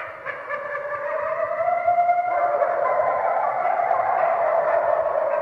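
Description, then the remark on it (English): A chorus of wild red wolves near the Alligator River, recorded by the U.S. Fish and Wildlife Service, howls together, several long, wavering tones rising and sliding over one another in a steady, mid-pitched swell that holds for several seconds with no talking. “Keeping the red wolf howling in the wild has not been cheap.”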